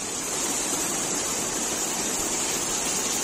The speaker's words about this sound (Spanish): Este era el sonido del agua entrando en varias bocas de metro.